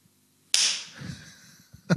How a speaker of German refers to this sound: Wir klatschen jetzt, wir müssen so klatschen.